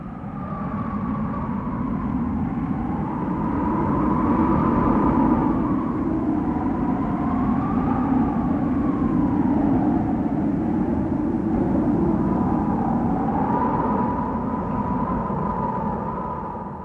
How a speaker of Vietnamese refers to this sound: Bát Giới bước lên ngăn hành giả, nói: "Sư huynh ơi, gió to quá, chúng ta tạm ẩn vào đâu một chút đi."